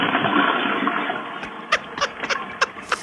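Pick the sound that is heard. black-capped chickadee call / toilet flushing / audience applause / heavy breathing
toilet flushing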